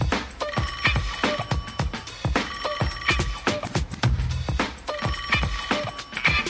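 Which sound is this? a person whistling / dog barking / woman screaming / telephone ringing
telephone ringing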